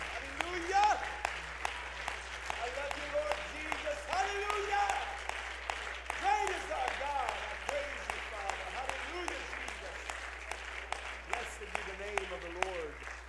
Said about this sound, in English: Clap your hands one more time and let's give God some praise before we're seated.